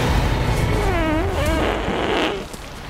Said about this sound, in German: Und alles beginnt mit einem langen, langen, ausgedehnten, wirklich langen Furz.